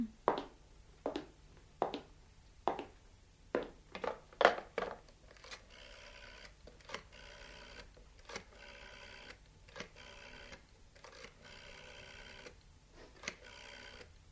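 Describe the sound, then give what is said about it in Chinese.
A phone is dialed to make a call, with a series of sharp, evenly spaced clicks, followed by a repeating electronic ring tone buzzing in bursts. Moderately loud, with no voices. “我去打个电话先吓，对唔住啊。”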